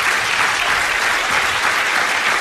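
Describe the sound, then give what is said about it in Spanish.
Steady, dense applause for Luis Rubiales from an audience that includes his daughters fills the whole stretch. It is loud and continuous, with many hands clapping at once and no voices standing out. “L'aplaudeixen les filles, sí, sí, sí.”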